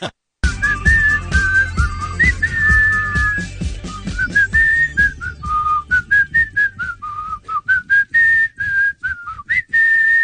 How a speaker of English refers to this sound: Whistle when you're laughing.